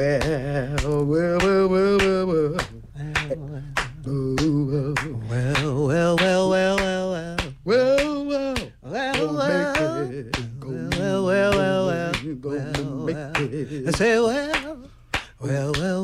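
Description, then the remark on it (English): Steady, rhythmic hand clapping keeps a regular beat beneath voices singing a sustained melody, the claps sharp throughout. “If you just have that good tambourine player. Yeah. And then that get clapping going.”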